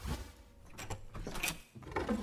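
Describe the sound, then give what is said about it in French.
A desk drawer slides open with a short wooden scrape and a few clunks, fairly quiet, over roughly two seconds with no voices, as Scrooge opens the drawer of his desk. “Il ouvrit le tiroir de son bureau.”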